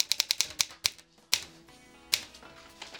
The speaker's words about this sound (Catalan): En López, vestit amb camisa, corbata i tirants, escriu amb una màquina antiga.